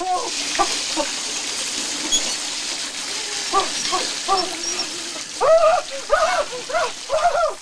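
A shower runs cold water with a steady hiss of spraying water throughout, broken by bursts of short, high, voiced yelps that grow louder and more frequent toward the end.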